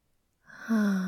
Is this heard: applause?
no